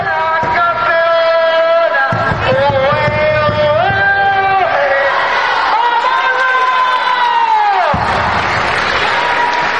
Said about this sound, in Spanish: Ahí está el grito de guerra realizado por las jugadoras con su entrenador